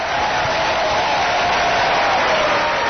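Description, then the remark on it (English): A sustained round of applause from a large crowd opening the AM 760 Progressive Talk radio show in the Mile High, a steady dense wash of clapping that holds at an even, loud level throughout with no voices standing out. “It's good to start the show with a round of applause.”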